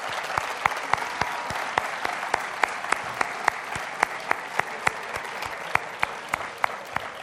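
An audience applauds steadily for a woman, her brother and her family at a Corpus festival event, a dense wash of clapping with many distinct sharp claps standing out in a regular rhythm, sustained and fairly loud throughout with no speech.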